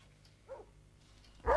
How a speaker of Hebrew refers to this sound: הנה זה בא. הנה זה בא. תכף. הנה הכלב.